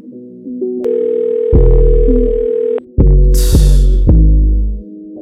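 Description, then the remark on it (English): A steady, loud electronic telephone dial tone after a call is hung up drones on, joined by deep throbbing low pulses and a brief hiss of noise partway through, with no one speaking. “How you hang up on me and you ain't answering the phone?”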